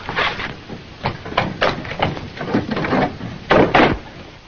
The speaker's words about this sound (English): Shut door.